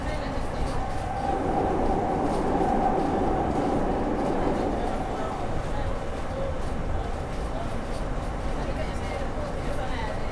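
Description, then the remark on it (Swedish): A train carriage rumbles steadily along the rails, rocking gently, a constant low rolling roar with faint rhythmic clatter, heard from inside the carriage for the whole stretch. “De här vagnarna går ju väldigt fint. Det känner att man vaggar fram på något sätt.”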